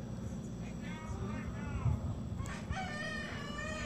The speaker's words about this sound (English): So the rooster thought it was a new day.